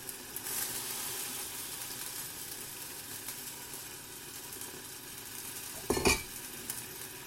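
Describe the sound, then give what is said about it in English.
A steady sizzling hiss of liquid bubbling in a pan, with soft scraping and swishing as rice and a ladleful of chicken stock are stirred, and a brief louder clink near the end. “And again, you've got lots of liquid and you can stir that around.”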